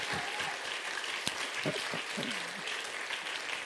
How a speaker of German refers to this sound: Riesenapplaus für meine beiden Freiwilligen. Hey, hey, hey!